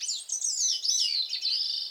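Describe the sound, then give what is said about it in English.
A Bicknell's thrush sings at dawn on a mountain summit in Vermont, among gnarled, stunted spruce and fir: a high, swirling, continuous song with rapid rising and falling notes, clear, with no voices or other sounds around it. “The swirling serenade of a Bicknell's thrush.”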